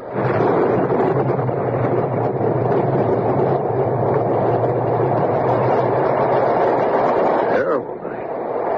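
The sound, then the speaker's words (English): Thunder rolls in a long, heavy rumble after a lightning flash that lit up the whole sky. It stays loud and steady for several seconds, then dips briefly and rumbles on at a slightly lower level. “Hey, that was a big one. You see that lightning? Lit up the whole sky.”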